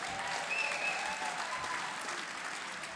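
An audience applauds steadily, a dense, continuous wash of clapping that holds an even level throughout, with a faint whistle or cheer poking through early on.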